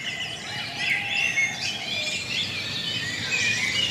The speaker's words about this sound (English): You're listening to the Dawn Chorus live from Kutkany Marsh Nature Reserve and Cove. And you're also listening to the birds from Kenya.